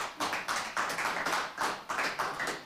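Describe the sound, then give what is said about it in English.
A crowd applauds steadily on cue as a light is turned on, many hands clapping in a dense, crackling wash that pulses in quick waves and holds at a moderate level throughout, with no voices. “Everyone that just clapped was in the know.”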